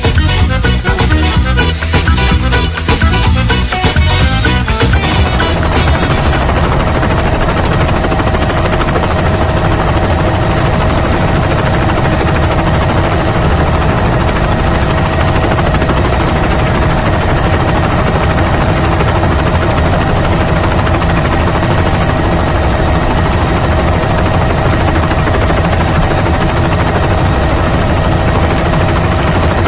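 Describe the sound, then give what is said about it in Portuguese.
A helicopter's rotor thumps loudly and steadily, beginning with a rapid choppy beating over the first few seconds, then settling into a dense, continuous whirring roar with a thin high whine for the rest. “Vamos embora, vamos pra rádio, nós já tá meio atrasado, calibou os pneus do helicóptero.”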